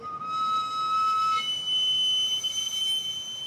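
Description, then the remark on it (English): The steam whistle of a sweet potato seller's pushed cart, powered by a little wood fire that steams the potatoes, shrills continuously and loudly, holding one steady piercing tone before jumping higher partway through, over a constant hissing rush of steam and street noise. “A little wood fire steams the potatoes and powers that piercing whistle.”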